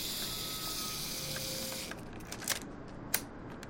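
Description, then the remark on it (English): A steady mechanical whirring buzz runs for about two seconds and then stops, followed by a few sharp clicks, including one crisp snap near the end, as a mechanical camera's self-timer winds down and trips the shutter; the camera's connected self-timer and shutter spring had been stuck and were just freed. “Well, you see the self-timer and the spring for the shutter are connected, so it wasn't broken, it just was stuck.”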